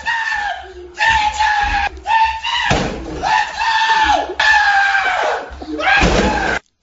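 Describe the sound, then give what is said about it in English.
A man screams in strained, drawn-out bursts while he punches his fist through a door, heavy crashing impacts and loud splintering thuds breaking through the yelling. “You'll hear him punch out the door. He's screaming. You'll hear this crash. He is actually putting his fist through a door.”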